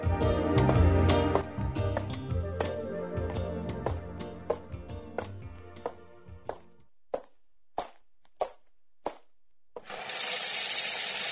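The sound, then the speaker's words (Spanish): Water runs into a large pila, a water storage wash basin, preceded by clattering and a series of sharp, evenly spaced knocks, then a steady loud rush of pouring water at the end. “¿Y qué puedo hacer con la pila de agua que tengo ahí atrás?”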